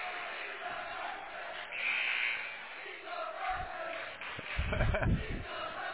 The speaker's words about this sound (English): we heard a chant there from the student section. That's why AD Coach Edwards and head coach Edwards wanted those students here tonight. Let them in for free for this big District 7A rivalry.